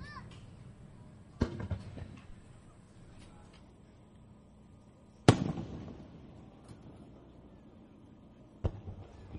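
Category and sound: sound effect, fireworks exploding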